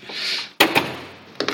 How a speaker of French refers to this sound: Accompagner la porte quand même, quand elle a certains poids, oui. Voilà. Et là, évidemment, il faut faire attention de ne pas aller trop loin. Sinon, là, le fronton de la porte vient s'écraser contre la colonne.